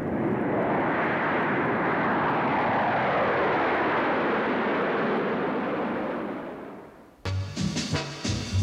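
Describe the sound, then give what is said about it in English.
A loud, sustained roar of Boeing 707A jet airliner engines, a broad rushing whoosh that swells and slowly shifts in pitch before fading, then cut off abruptly by music. “In the KY hangar this hour, a Boeing 707A.”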